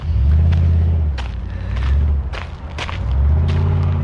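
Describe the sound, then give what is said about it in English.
A deep, loud truck engine rumble swells and eases in repeated revving surges as the driver shows off, at Surrey Bend Regional Park, with scattered footstep-like thuds and scuffs over it. “Loud vehicle over there. Guy's showing off with his truck.”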